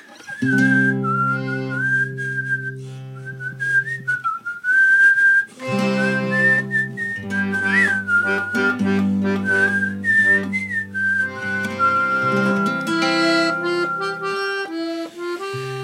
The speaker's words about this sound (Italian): Aspetta che mi viene. Questa canzone comincia col fischio, bisogna vedere se mi viene.